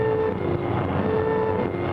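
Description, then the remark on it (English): A train rumbles steadily past, a dense continuous roar with faint tonal whistle-like lines running through it, loud and unbroken for the whole stretch with no voices. “Train.”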